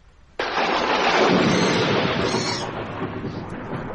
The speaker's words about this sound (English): That storm's getting worse.